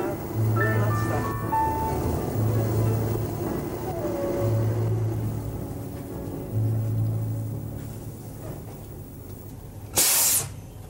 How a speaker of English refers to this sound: What's that loud noise? That is my air brakes. Oh, I see. And now all my four wheels are locked, and the bus will not move till I start it again.